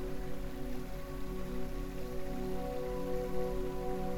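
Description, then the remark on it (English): Water in a stream pours and trickles over rocks in a steady, unbroken babble, with a soft humming tone sustained beneath it. No one speaks. “You can hear water pouring over rocks, trickling along.”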